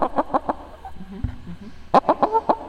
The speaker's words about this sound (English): If you need a pet to be sat or walked or fed, like these chickens here. Oh, Peter. I think that's Peter, Peter. And there's 2 other names I forgot. There's 3 beautiful chickens.